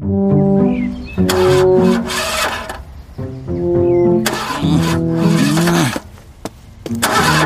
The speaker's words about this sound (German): versucht, seinen Bus zu starten.